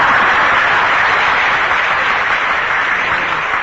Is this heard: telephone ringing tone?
no